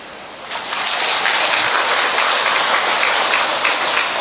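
Steady, dense hiss of rain pouring down outdoors, swelling slightly after the first half second and then holding a loud, even wash of countless drops with no voices.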